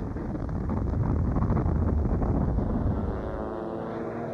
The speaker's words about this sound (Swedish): Allt eftersom det är jet eller propellerplan eller helikopterljud som hörs från den stora kudden